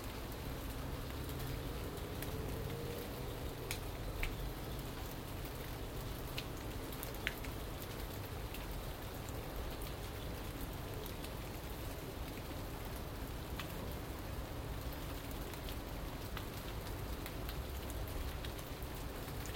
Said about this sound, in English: Gentle rain that falls.